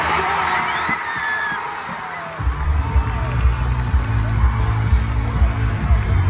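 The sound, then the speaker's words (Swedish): A large crowd at Avicii Arena (Ericsson Globe) roars with cheers, whoops and screams as Bianca Ingrosso comes out, the dense wall of noise swelling louder partway through and staying intense to the end. “Men taket lyfte på Ericsson Globe när Bianca kom ut.”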